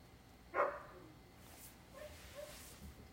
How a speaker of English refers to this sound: Well, the dog's barking is going to interrupt this recording. No, it's okay.